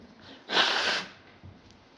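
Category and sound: human body sound, nose blowing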